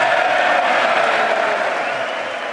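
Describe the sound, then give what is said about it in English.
Sustained applause and cheering from Republicans in a chamber at the end of a speech, a dense wash of clapping with scattered shouts that holds steady and then eases slightly toward the end. “And interestingly enough, of course, the Republicans were cheering.”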